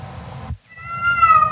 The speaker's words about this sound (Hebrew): מה אתה בוכה?